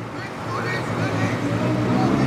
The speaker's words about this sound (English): It's rush hour on a cold, snowy morning in Berlin. At a highway exit on the western edge of the city, commuter traffic has come to a standstill as a dozen climate activists sit down on a pedestrian crossing and glue themselves to the road.